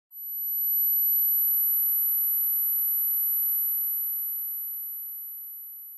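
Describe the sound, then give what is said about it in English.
A steady, piercing high-pitched ringing tone, like tinnitus, fades in quickly and holds for several seconds before slowly tapering off, with no voices present. “Tinnitus, T-I-N-N-I-T-U-S, is a medical condition where you hear ringing or buzzing in your ears, like...”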